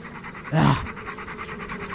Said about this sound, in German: Oh, da ist ein Hund.